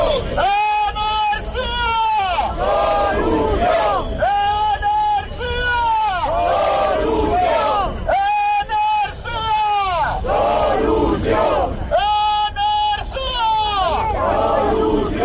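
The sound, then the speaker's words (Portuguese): A large crowd protesting over energy prices in front of the government delegation in La Coruña chants slogans such as "energía solución" in unison: loud rhythmic shouted phrases repeating in bursts over roughly fifteen seconds, with a constant outdoor murmur and noise beneath the chanting. “se ha congregado bastante gente ante la delegación de gobierno en La Coruña, reclamando lo que llevan muchísimos meses reclamando: el precio de la energía, un precio justo, energía solución, como se gritaba.”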